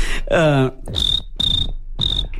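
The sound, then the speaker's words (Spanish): A voice imitates a cricket, starting with a short vocal squeal, then three evenly spaced, high-pitched chirps, each a brief raspy trill separated by pauses. “¿Tú eres el que haces el grillo?”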